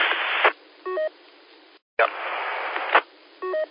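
Two brief computer-sent Morse code tones, each a short electronic beep, follow bursts of hissy radio static over a thin, band-limited channel, with a short silent gap between the two passes.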